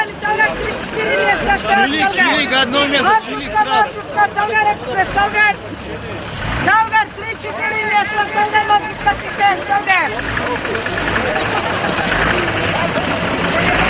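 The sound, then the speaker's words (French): Buses idle with engines running in a steady low rumble on a street in Almaty, Kazakhstan, while several voices loudly call out names of towns, villages and mountains on the sidewalk over a busy street hubbub, overlapping shouts coming and going throughout. “Des bus moteurs allumés et des noms de villes, de villages, des noms de montagnes lancés sur le trottoir.”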